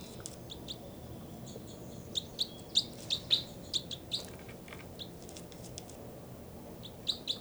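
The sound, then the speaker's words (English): Two birds, numbered 305 and 306, trade short, high-pitched chirps, a quick cluster of sharp notes in the middle and a couple more near the end, over a steady low background rumble. No one speaks. “Both birds mainly.”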